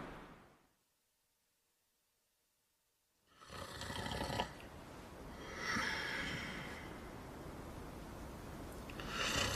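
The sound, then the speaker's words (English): A man snores loudly after a few seconds of silence, with harsh, rattling snorts rising and falling in long, heavy breaths. No one speaks. “He's snoring ever so loud.”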